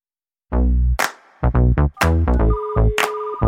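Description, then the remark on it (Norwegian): A bright electronic phone-ringing jingle plays alone, a quick run of loud, tonal notes with sharp attacks, one briefly held tone, lasting a few seconds. “Plukk opp telefonen og kom med det du har.”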